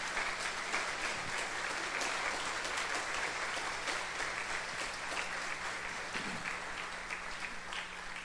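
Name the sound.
audience applauding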